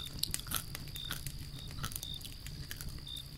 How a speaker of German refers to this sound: Oh, was hängt denn da über dem Feuer? Ein Maiskolben. Lecker. Ich hab so einen Bärenhunger. Da beiß ich jetzt doch glatt mal rein.